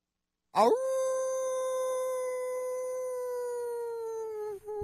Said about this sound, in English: You better know what that means with the howl.